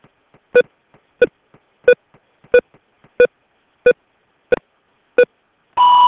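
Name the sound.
answering machine beep tone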